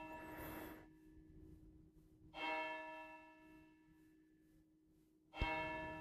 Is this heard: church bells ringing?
yes